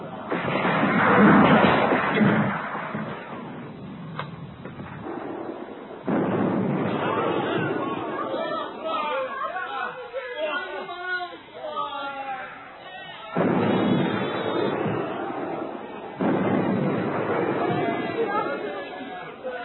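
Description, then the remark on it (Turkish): Heavy Russian cannon fire and explosions boom in loud, rumbling bursts during a battle, with stretches of dense noise between blasts while voices talk over it. “Rus topları taş üstünde taş bırakmıyor. Her ateşte en az 10 kişi ölüyor.”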